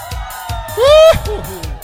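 A loud, rising whoop of a shout bursts out for about a third of a second over a steady murmur of crowd voices and cheering, then the chatter continues.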